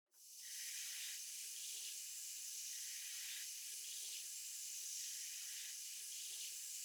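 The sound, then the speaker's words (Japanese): A steady, hissing rush of running water from a shower head, continuous, with no voices, water left running to reach the right temperature before being poured over a head to rinse off shampoo lather. “お湯が最適な温度になりました。頭にかけてまいりますので、目を閉じていてください。”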